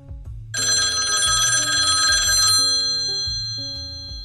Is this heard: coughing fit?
no